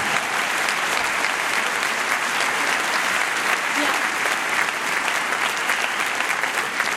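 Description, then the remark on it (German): Steady, dense applause from an audience welcoming a guest from Berlin, a continuous wash of many hands clapping at an even, fairly loud level for the whole stretch, with no voices standing out. “Applaus, Applaus, wer dran? Applaus.”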